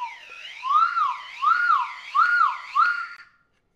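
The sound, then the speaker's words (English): A loud 3D-printed whistle is blown in four rising-and-falling swoops, giving a warbling, siren-like wail that rises and fades in waves before stopping abruptly. Nobody speaks. “So there we have it, the 5 most downloaded 3D printed whistles.”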